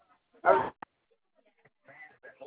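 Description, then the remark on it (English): A dog lets out one loud bark followed by a short clipped yelp, then quieter voices talk in the background. “Goddamn dog, don't listen.”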